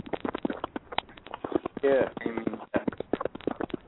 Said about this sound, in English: Yeah. I hear it too, though. That's all I hear. Sounds like somebody's running through the woods and shit.